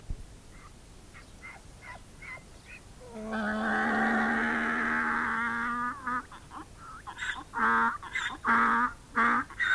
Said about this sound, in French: Mais maintenant que nous allons nous quitter, je voudrais te chanter quelque chose avec ma belle voix d'âne, cette voix qui fait l'admiration de tous ceux qui l'entendent. Écoute.